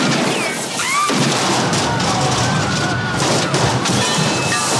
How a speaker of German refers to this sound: der Frank Drebin checkt es nicht, schießt noch drauf und so, das Auto explodiert und alles